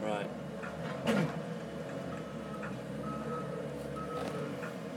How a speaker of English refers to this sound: Like that truck there, with the Mercedes, he's only doing from Malmesbury to here. So he do about 50 case. Right. Up and down, up and down, up and down. He bring all the stuff to here. That truck, from the factory.